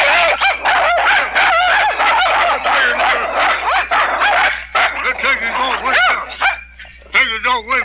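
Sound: dogs barking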